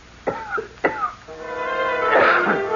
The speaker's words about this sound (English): I had just taken out my notebook and pencil to jot down an idea when somebody on the cot next to mine began coughing, and I turned my head.